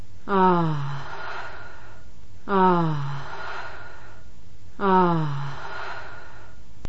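Three identical voiced 'ah' exhales from a woman breathing during a session, evenly spaced about two seconds apart, each a short breathy sigh with a falling pitch, clear with quiet pauses between.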